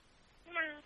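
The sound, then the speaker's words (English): A person's voice mimics a cat with a single short, drawn-out meow that swells and then fades, heard on its own after a moment of quiet background. “Is there a kitty cat on the other end of the phone?”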